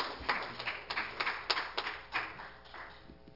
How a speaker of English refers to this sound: One more hand clap for the Lord.